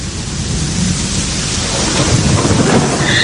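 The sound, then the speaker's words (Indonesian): Heavy rain pours steadily outside at night while a deep, rolling rumble of thunder swells underneath, growing louder toward the end. No voices, just the dense hiss of the downpour and low booming. “Sesekali suara gemuruh petir membuat malam itu entah kenapa semakin terasa mencekam.”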